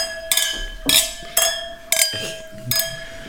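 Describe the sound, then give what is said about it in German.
Wine glasses of 2017 Chardonnay clink together five times in a toast, in a loose, steady rhythm, each bright ringing tap lingering briefly before the next, with no talking. “Ich erhebe mal das Glas, stoße auf unseren Podcast an. Wein hat kann man die. Lass die Gläser klingeln.”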